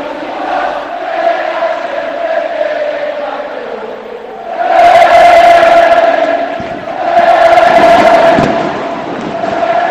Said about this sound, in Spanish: Hay fuegos artificiales en el Benito Villamarín, canta el himno a capela del Betis, la afición de este bendito estadio que despide a su rey.